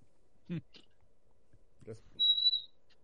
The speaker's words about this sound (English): That was a door.